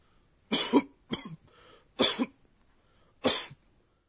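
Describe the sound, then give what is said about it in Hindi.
A series of short, dry, light coughs, about four separate bursts with brief pauses between them, fairly clear with no talking. “आज की ध्वनि है खांसी की आवाज.”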